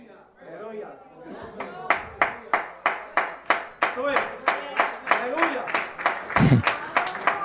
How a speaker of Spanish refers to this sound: Los que están aplaudiendo, no, los que están aplaudiendo, dejen de aplaudir, que los demás parece que dicen que predique con candado.